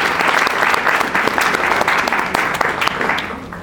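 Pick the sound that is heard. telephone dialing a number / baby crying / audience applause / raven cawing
audience applause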